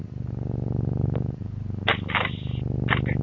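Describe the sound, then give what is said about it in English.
A large cat purring deeply and steadily, a loud rumbling throb that pulses in a quick, even rhythm, broken by a few brief breathy rasps near the end. “Because if I had to guess at a weight, this cat is 115 pounds.”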